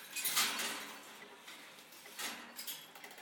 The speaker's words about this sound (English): I'll just wind up an old alarm clock that I've got. The damn thing on Amazon. Ages ago.